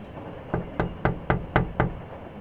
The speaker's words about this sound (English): Your frustration must have been quite evident to even people passing by through the hallway of the train, because you hear a knocking sound on the door to your cabin.